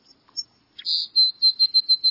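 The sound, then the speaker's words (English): A songbird sings a high, thin phrase: a sustained whistled note followed by a quick run of about five evenly spaced, bright chirps, heard clearly with no talking. “You associate most birds' songs with spring and early summer if you live in a temperate climate.”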